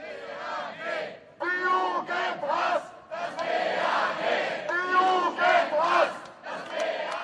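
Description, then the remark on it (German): A protest crowd at a demonstration in Munich, Germany, chants in loud, rhythmic bursts, many voices shouting together in repeated phrases with short breaks between them, sustained over several seconds. “Auf der Demo in München klang das allerdings ganz anders.”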